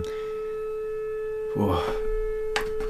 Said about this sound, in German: Jetzt geht ja der Alarm los draußen.